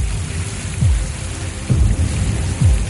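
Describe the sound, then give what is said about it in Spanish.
Heavy rain pours down in the jungle in a steady, dense hiss, with a few deep low rumbles surging through at intervals. No voices are heard. “Hay que luchar contra la lluvia para intentar proteger todo lo que tenemos.”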